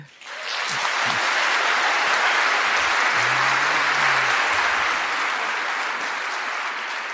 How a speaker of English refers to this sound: I note that all three endorsements have gotten applause, rounds of applause. So I'm watching you, Melbourne.